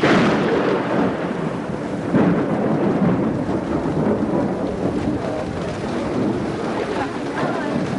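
rain falling with thunder

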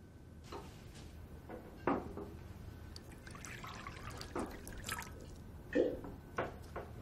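water dripping and pouring

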